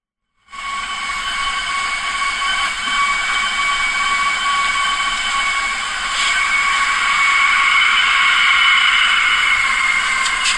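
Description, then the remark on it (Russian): A balcony door, played back from a phone recording, makes a steady, shrill whistling roar with several sustained high tones, jet-engine-like, starting abruptly and growing slightly louder toward the end; no voices. “она не просто дверь, она дверь, которая мечтает стать самолетным двигателем.”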